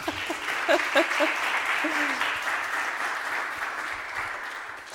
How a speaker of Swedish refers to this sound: Får man en applåd?